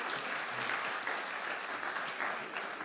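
An audience claps steadily throughout, a dense, continuous patter of many hands at a moderate level, with no voices standing out.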